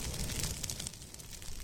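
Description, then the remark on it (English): Fire crackles and pops steadily over a low roaring rush of burning vegetation during a controlled burn of scrub land in Florida, with scattered sharp snaps. The sound is fairly quiet and continuous, and no voices are heard. “Fire crackles in a controlled burn on Archbold land.”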